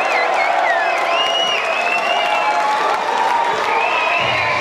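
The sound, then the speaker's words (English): A big crowd roars with sustained cheering, whoops and screams, applause running steadily underneath. The sound is loud and continuous across the whole moment, with high-pitched shrieks rising above the din. “Yo, without any further ado, ladies and gentlemen, give it up”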